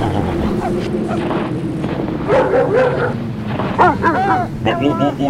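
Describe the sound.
Several racing dogs bark and yip excitedly in quick, overlapping bursts over steady wind rumble outdoors, with a person's voice among the yelps telling them to calm down.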